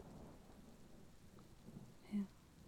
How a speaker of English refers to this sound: So, I think you should just lay here and listen to the rain.